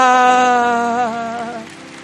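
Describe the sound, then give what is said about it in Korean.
A crowd claps steadily as applause of glory to the Lord, a dense crackling patter under a sustained, slightly wavering keyboard chord, with both fading a little toward the end. “지금 우리에게 오고 계시는 주님께 우리 영광의 박수를 드리겠습니다.”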